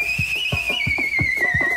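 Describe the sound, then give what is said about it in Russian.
Loud human whistling holds one long, piercing note that slowly sinks in pitch, with a steady run of soft low thumps pulsing underneath. “Он начал оглушительно свистеть.”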